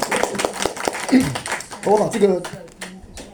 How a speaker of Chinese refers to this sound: 他要受洗，我们一起鼓掌向他庆贺祝贺。